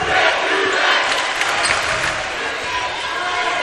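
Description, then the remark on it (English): The George Ranch basketball crowd chants loudly and steadily in unison against the Broncos' fouls on the Longhorns, a dense wall of many voices repeating "You can't do that, you can't do that" at constant volume throughout. “George Ranch with that chant, "You can't do that, you can't do that."”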